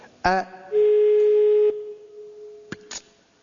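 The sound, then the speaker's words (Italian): A steady electronic telephone tone sounds loud for about a second after a sharp click, then lingers faintly while a couple of brief clicks follow. No one speaks. “Io non sento più niente. Niente, ha smesso di fare tu.”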